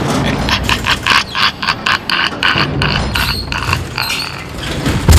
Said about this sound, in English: Actually, it's really not that scary. These are actual sounds from garage doors just like yours.